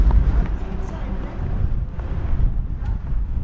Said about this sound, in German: habe ich mich heute hier beim stürmigsten Wetter getroffen und der Wind pustet uns kleine Staubkörner oder ganze Blätter von den Bäumen ins Gesicht.